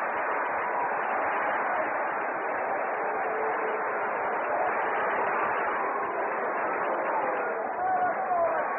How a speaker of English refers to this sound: Nelson pitches out of it. A 6-4-3 double play. Listen to the crowd.